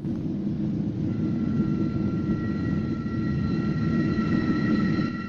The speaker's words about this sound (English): They stare at the train with wide eyes, then screw them tight shut and avert their faces as the train passes in front of them, a hair's breadth away from their rigid bodies.